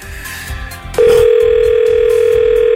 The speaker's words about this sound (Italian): Ovviamente io ho un minuto per far dire la parola lunedì alla persona che adesso risponderà al telefono dicendo pronto, e da lì partirà il mio tentativo di farle dire lunedì.